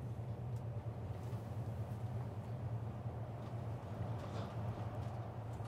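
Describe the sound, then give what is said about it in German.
A steady, droning rumble of a moving train heard from inside as it runs along a noise barrier, with a constant low hum and faint rattling, continuous and unchanging throughout, no voices. “Wir können so schön frei plaudern über Essen im Zug, weil wir hier an einer sehr hässlichen Lärmschutzwand entlangfahren.”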